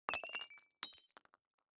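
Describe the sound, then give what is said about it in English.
A ceramic teacup crashes and shatters, a sharp bright impact followed by two more clattering bursts of shards, then a faint final tinkle as pieces settle. “Oh, your tea! Don't worry, the orchids will drink it.”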